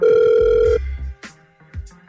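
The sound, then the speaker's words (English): An outgoing phone call placed by the Hot 96.9 radio station: its ringback tone sounds as one loud, steady electronic burst lasting under a second, then cuts off, leaving a few soft clicks and low thumps on the line. “We're going to try and call him now, okay?”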